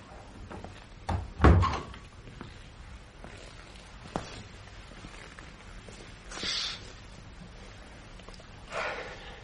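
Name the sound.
door opening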